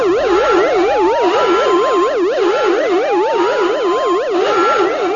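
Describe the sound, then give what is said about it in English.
Cockpit alarms of Lando's spaceship, the Lady Luck, blare without pause, a loud, rapidly warbling tone wavering up and down, with extra rising electronic whoops layered on top. No voices are heard. “One by one, Lando silenced the alarms.”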